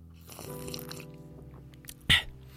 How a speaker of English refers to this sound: So we'll use fucking my mug of tea. All right, I'll take a sip of my tea.